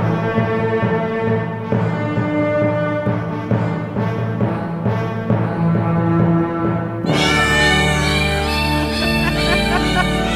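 A loud novelty song built from meowing cats and barking dogs, the yowls pitched into a bouncy melody, then shifting near the end into sustained, droning chords with no one talking.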